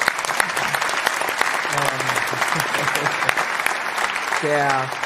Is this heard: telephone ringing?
no